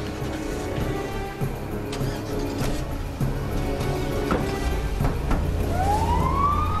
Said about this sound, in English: Jack, Owen, and others are installed in the ambulance. The back door is closed and the vehicle speeds away under escort.